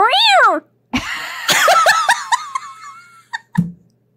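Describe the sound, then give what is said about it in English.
A voice imitates a kitten with a high, rising-and-falling meow, then a quick run of short squeaky mews and a final brief one, fairly loud, mimicking kittens squeezing feet inside slippers. “The kittens are squeezing your feet. They're like going, meow, meow, meow.”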